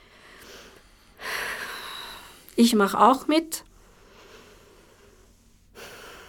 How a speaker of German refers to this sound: Atmen 2-3 Mal tief in den Bauch ein.